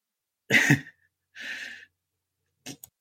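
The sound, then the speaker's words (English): A single forceful cough bursts out, followed by a breathy exhale or throat clear and then a brief, faint rasp, with no talking. “Sorry, I coughed there.”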